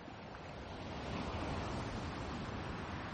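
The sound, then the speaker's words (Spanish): Steady rushing wash of sea waves, a continuous broad hiss of surf that swells slightly and holds at moderate loudness, with no voices. “Ahí viven, por siempre abrazados, meciéndose entre las caricias del mar.”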